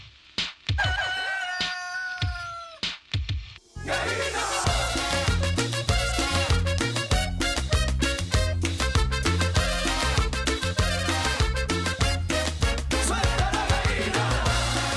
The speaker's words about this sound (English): Has a little norteño sound, I think. Really definitely sweet. It's like a cumbia, like, mm-hmm. but in a more of a Mexican style than a Colombian style.